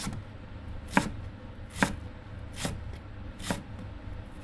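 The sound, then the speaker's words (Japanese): A recently sharpened knife slices green onions diagonally on a cutting board in five crisp, evenly spaced strokes, each a sharp percussive tap over a low background hum, with no talking. “ネギ斜めでいい？”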